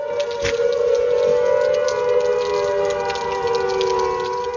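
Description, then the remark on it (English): A loud, sustained World War II air raid siren wails steadily in a Yorkshire village, warning of oncoming floods, its piercing tone holding nearly level throughout with a broad, harsh buzz beneath, heard alone with no voices. “In a Yorkshire village, a World War II alarm blasts out.”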